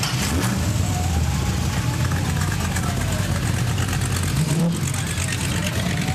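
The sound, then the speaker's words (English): The engine of a 1929 Ford Roadster rumbles loudly and steadily at a car cruise event in Morro Bay, its deep throaty idle rising slightly as it pulls away, with faint crowd chatter mixed in behind it. “So tell me what you're driving here. 29 Ford Roadster.”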